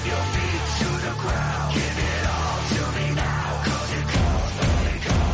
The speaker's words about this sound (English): The roar of the crowd.